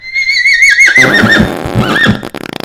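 A loud horse whinny rises in a shrill, wavering cry and then drops into a rough, shuddering snort before fading out, with no voices present.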